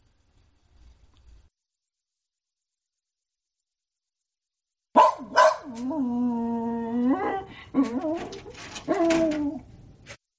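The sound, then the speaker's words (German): After several seconds of near silence, a young German shepherd that a breeder wants to sell lets out a fairly loud run of high yelps and drawn-out whining barks, repeated over the last five seconds with no talking. “Der Züchter Paul möchte einen jungen deutschen Schäferhund verkaufen.”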